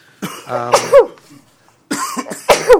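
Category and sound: human body sound, sneeze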